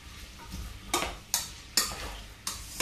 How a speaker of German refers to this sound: So, ihr hört es schon ein bisschen britzeln. Und dann auch gleich die Radieschen oben drauf. So. Dann mit dem, na, wo ist er? Pfannenwender, Pfannenwender, Pfannenwender. Und dann einmal kurz mit dem Pfannenwender durchmischen.